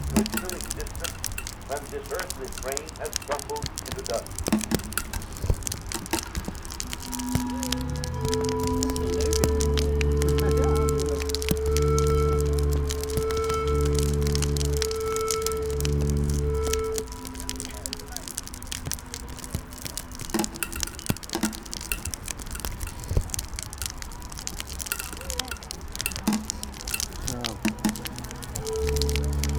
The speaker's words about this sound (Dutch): even voor de goede orde, het regent nog steeds. Je hoort het plastic zakje heel erg.